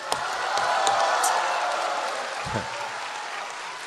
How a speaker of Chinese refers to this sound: 什么玩意儿啊？你还鼓掌？